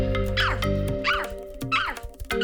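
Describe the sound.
A voice imitates a dog, giving about four yelping barks at a steady pace, loud and close, over a constant low hum in the background.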